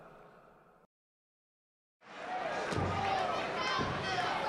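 A steel chair slams hard into a wrestler over a loud, roaring crowd, followed a moment later by a second heavier thud as the crowd noise keeps surging.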